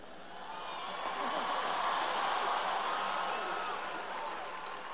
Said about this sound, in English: Good, good, because it said pause for cheers and applause.